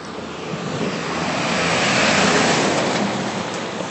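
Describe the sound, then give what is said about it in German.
A truck drives past outside in a city centre, a broad roaring rumble that swells steadily, peaks midway, then eases off slightly, with no voices over it. “Jetzt kommt ein Laster!”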